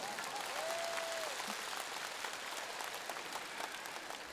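A crowd applauds steadily, a dense wash of many hands clapping at even loudness for several seconds, with a faint whistle-like tone rising briefly near the start.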